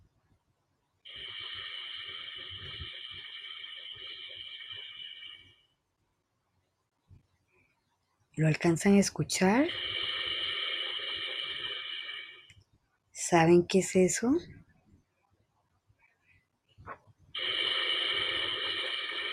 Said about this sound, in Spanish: Es el sonido de un globo, aerostático. Sí, también podemos subirnos y transportarnos por medio del globo aerostático.